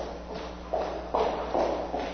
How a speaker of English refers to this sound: Imagine walking down the street and hearing footsteps behind you. They get closer and closer, and suddenly you have a sense something bad is going to happen.